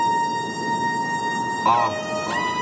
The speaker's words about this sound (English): It's the no party alarm. Yes. Don't you dare party.